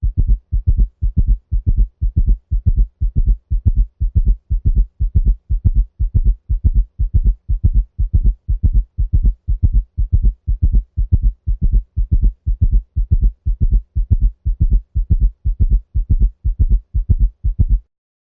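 A simulated summation gallop heart sound at 120 beats per minute: steady, loud, low-pitched thudding beats in a fast regular rhythm, with no voices present.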